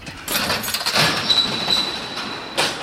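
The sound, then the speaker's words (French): A door squeaks as it opens, a thin, steady high-pitched squeal lasting about a second, set against continuous rustling, scraping noise with a louder burst at the end. “Alors, attention, la porte elle cligne un peu.”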